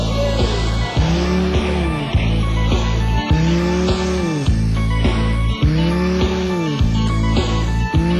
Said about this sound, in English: It's a fantastic track that features perhaps the first usage of a drill in stereo that if you're listening to mono disappears completely. Listen out for that in the first 10 seconds of the song from play.